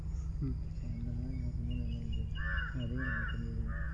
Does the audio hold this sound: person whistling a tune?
no